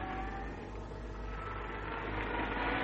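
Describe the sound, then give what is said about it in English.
A car engine rumbles steadily, a low continuous drone that grows slightly louder toward the end as the car arrives back. No one speaks. “There's the car. Arnold's come back.”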